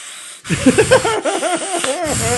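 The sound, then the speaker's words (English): A person imitates an actor's exaggerated seething from a movie, a hiss sucked in and out through clenched teeth, breathy and wavering with a strained whine, lasting about two seconds after a brief pause. “It's the worst seething ever. It's audible. Like you can hear it come sucking in and out of his teeth, the wind.”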